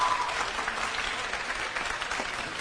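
Steady applause from an audience for the attendee who proposed the topic of the talk, a dense even patter of many hands clapping at a constant moderate level, with no voices standing out above it.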